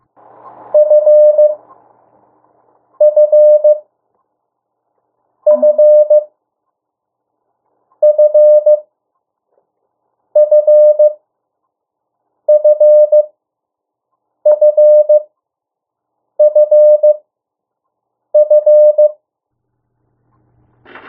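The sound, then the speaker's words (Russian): Morse code for the letter F, tapped out as a steady high beeping tone, repeated about nine times in evenly spaced bursts roughly every two seconds, clear and loud with no voices. “Буква F имеет, любой знак азбуки Морзе имеет свой напев.”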